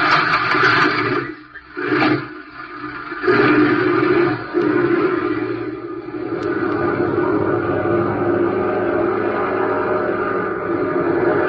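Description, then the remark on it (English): The engines of a big, loaded silver and red airplane roar loudly and steadily, a broad droning rumble that briefly dips and surges early on before settling into a sustained, powerful hum with no voices. “Its engines roar.”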